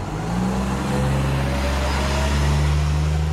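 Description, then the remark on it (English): A route 28 city bus pulls away, its deep engine drone holding steady and then rising slightly in pitch as it accelerates, loud and continuous over faint street noise. “The 28 pulls away, we pedal like mad towards downtown.”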